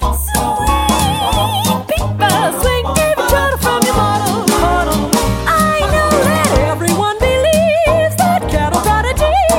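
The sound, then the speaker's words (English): Warbling, squawking bird calls pop out again and again over loud, lively band music with a steady thumping beat, the calls repeating in quick bursts throughout. “Take a listen now to the birds.”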